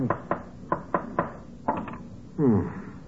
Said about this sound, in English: But what were you doing with the hammer and nail? What do you mean, what was I doing? All artists do that when they finish painting the canvas. Tacking it onto a wooden frame